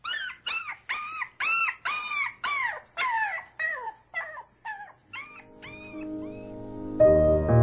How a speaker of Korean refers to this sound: 도로시는 몇 시간이나 울곤 했고 토토는 도로시의 발치에서 도로시의 얼굴을 바라보며 작은 주인님이 슬퍼서 자기도 슬프다고 끙끙거렸다.